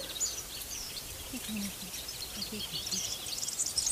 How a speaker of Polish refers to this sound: Głosy ptaków. O, tak. Dwa są. Tak. O, ptaki akurat migranci, czyli już tu ostatnie dni. Kulczyki przeganiają się. Zapewne młode ptaki. Być może nawet one się uczą. Z angielskiego to się mówi, że to są sub song.